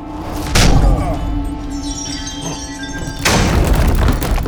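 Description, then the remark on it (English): A heavy iron chain, released by throwing a lever and swung in a fast, powerful arc, slams into the giant body of Meebo: two loud, crashing impacts a few seconds apart over a steady low hum, the second followed by a sustained rattling, grinding wash of noise. “Throwing the lever swung the chain in a fast and powerful arc toward the ground.”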